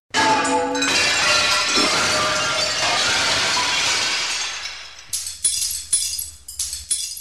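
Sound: window glass shattering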